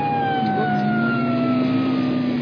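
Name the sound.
police car siren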